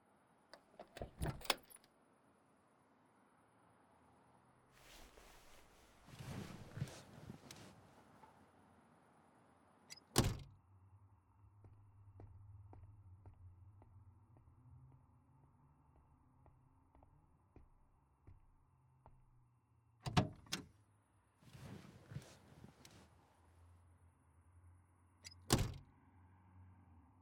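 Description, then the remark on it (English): A car door clunks open and shut several times as it is opened for a passenger to get in, sharp thuds and latch clicks standing out over a low engine-like hum and some rustling, with no talking. “Hop on in. I'll open the door like the gentleman I am.”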